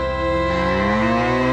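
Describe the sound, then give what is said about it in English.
A single loud, drawn-out cow moo, its rich harmonic bellow holding steady then sliding slightly upward in pitch over about a second and a half. “Cows, too.”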